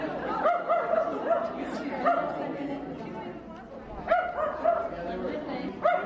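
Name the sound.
dogs barking and yipping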